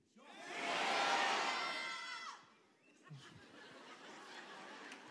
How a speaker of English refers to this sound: I want everybody to scream your own first name as loud as you can.